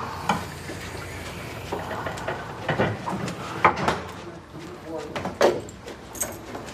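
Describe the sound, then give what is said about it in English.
A door at the bottom of a center stair tower, leading into a basement, opens with a handful of clunks and a rattle, scattered over a few seconds against a steady background hum, with faint voices. “There's the door. On your left. Got it.”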